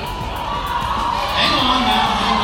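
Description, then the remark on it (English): A large crowd boos and jeers loudly and continuously at the Ohio Lieutenant Governor as he shows them how to wear a mask with MAGA on it, a dense roar of voices with one long, low drawn-out boo rising above the rest in the second half. “They're booing while he's trying to show them how to wear this mask with a MAGA on it”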